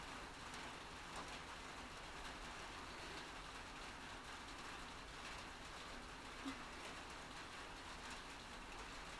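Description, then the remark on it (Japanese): Steady rain falls outside, a continuous soft hiss that stays even for the whole stretch, heard from under a shelter where the rain does not reach, with no voices. “やっぱり雨が当たらなくていいね。申し訳ないけど、ちょっとだけ雨宿りさせてもらおっか。”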